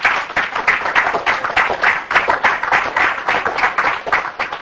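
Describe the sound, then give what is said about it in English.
A church audience gives the Lord a hand clap, breaking into steady applause, many hands clapping together in a dense, sustained wash of claps that holds at a fairly even loudness for several seconds. “Let's give the Lord a hand clap if you do.”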